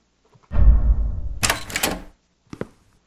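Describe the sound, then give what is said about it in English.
A door, just unlocked with a key, swings open with a low creaking rumble, followed by a sharper rattling scrape, then a short dull thud as it shuts by itself; fairly loud, with no talking. “Open the door! I have no choice.”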